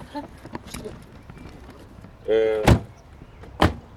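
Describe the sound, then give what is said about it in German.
A short creaking squeal, then two solid car door thuds about a second apart as people get out of a car stopped at the edge of a village, over a low outdoor background rumble. “Wir steigen aus.”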